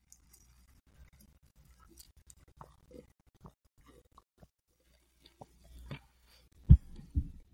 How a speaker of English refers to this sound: This is how I usually drink water. This is how I do it.